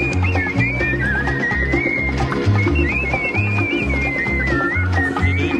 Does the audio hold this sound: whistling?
yes